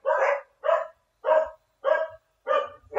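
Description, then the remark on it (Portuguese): A dog barks repeatedly in a steady rhythm, about six loud, mid-pitched barks spaced roughly half a second apart, with no talking over them. “Então, deixa ele latir primeiro e eu falo.”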